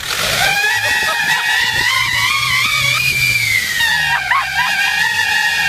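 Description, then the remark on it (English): A car gives off a loud, continuous high-pitched whistling squeal from a novelty noisemaker in its exhaust, recorded on a windy day. The pitch wavers and bends for several seconds over a low rumbling, windy background. “And remember, if your car makes that sound and you don't have silly noisemakers in the exhaust, take it to the shop.”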